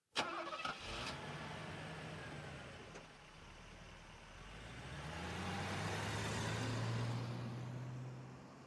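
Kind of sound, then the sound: vehicle, car engine starting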